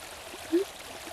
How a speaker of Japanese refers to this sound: 水の音が気になりますか？小川が近くを流れていて、すぐそこに清水が湧いているんです。綺麗なお水でとっても美味しいんですよ。